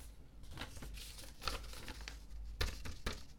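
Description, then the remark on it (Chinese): A signed paper rental contract rustles and crinkles as it is handled, with a few sharper crisp rustles standing out over a soft, continuous shuffling. Fairly quiet, with no talking. “看清楚了，这是你当初亲笔签字的合同，上面白纸黑字写得清清楚楚”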